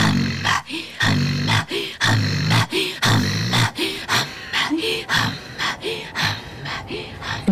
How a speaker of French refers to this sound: D'inspiration, expiration. C'est ma respiration, en fait, qui devient un chant.